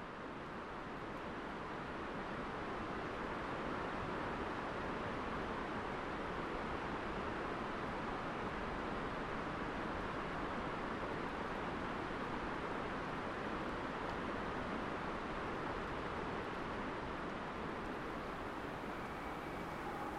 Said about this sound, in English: And then we'll hear further away the sound of the Ho River that drains the rainforest, echoing off the far side of the valley.